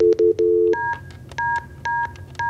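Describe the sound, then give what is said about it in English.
Telephone keypad tones beep one after another as a call is dialed to a financial advisor at the company EFS Advisors: a few quick low-pitched presses and then several evenly spaced higher beeps, clear, with faint background hum and no talking. “We're going to call EFS.”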